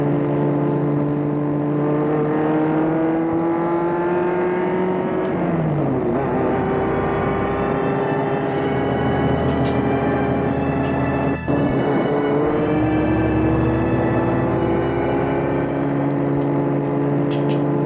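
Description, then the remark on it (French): A car engine hums steadily and loudly, its tone rising and dropping through a couple of gear changes as the vehicle drives along, with continuous road noise underneath. “Après le repas, Judith est partie avec les francs blancs dans leur voiture. C'est Maurice qui la conduit.”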